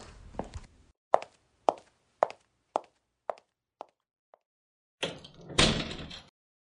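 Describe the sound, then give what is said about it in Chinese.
A door rattles open, then a run of sharp, evenly spaced knocks fades out before the door is pushed open and swung shut with a scraping thud, with no voices. “哦，你刚才不是不给我开门吗？”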